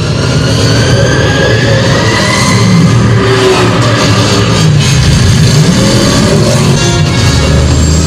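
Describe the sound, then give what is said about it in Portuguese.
The Batmobile's powerful engine roars steadily for several seconds, a loud, dense rumble with a high whining hiss like an airplane turbine layered over the deep low-end growl. “E faz o barulho igualzinho de uma turbina de avião.”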